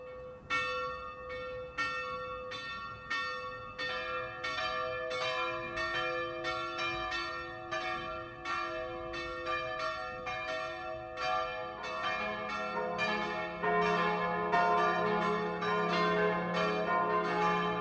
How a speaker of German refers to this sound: Es ist 12 Uhr. Das Mittagsläuten kommt heute von der katholischen Pfarrkirche St. Michael im oberpfälzischen Köfering.